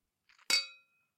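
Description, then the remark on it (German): Glasses clink together in a toast to love: a couple of light taps, then one bright ringing clink that hums and fades over a fraction of a second, with no talking. “Kleiner Freitag, da dürfen wir einen Drink genießen. Einen dürfen wir. Und zwar auf die Liebe.”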